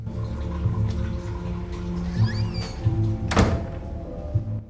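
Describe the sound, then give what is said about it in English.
A single solid thud of a bathroom door in a bar swinging shut, sharp, standing out against a steady low background hum, with faint creaks and rustles around it. “He opens the bathroom door and scans round inside, then comes out.”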